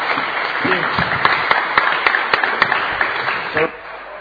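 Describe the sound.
A crowd applauds steadily, a dense wash of clapping with a few sharper individual claps standing out, while voices murmur and talk underneath.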